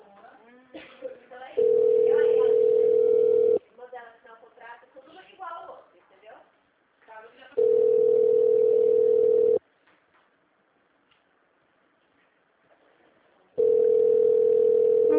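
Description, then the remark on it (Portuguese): A phone line rings with no answer: three long, steady, mid-pitched ringback tones, each about two seconds, separated by pauses where a person talks quietly. “Eles não atendem o telefone.”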